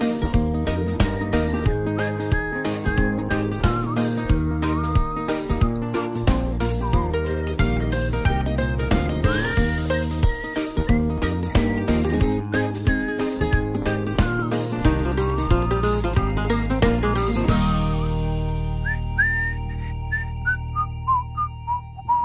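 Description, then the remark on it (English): A bright, clear whistled melody rides over an upbeat song with steady rhythmic backing, the whistling carrying a cheerful tune in repeated phrases before the music winds down. “If I could only whistle like that guy.”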